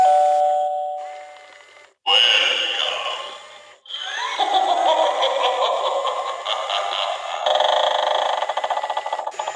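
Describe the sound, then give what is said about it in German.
A spooky novelty doorbell plays after its button is pressed: a bright chime tone, then a burst of eerie electronic sounds and cackling effects that run loud and continuous for several seconds, with no talking. “Das ist die schaurige Klingel. Wenn man hier auf den Knopf drückt, passiert das.”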